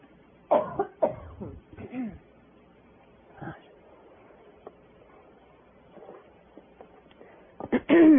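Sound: coughing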